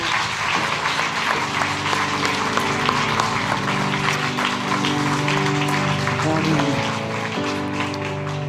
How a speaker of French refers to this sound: Alors, s'il est bon d'être dans la présence de Dieu, est-ce qu'on peut l'applaudir, lui, le seul vrai Dieu?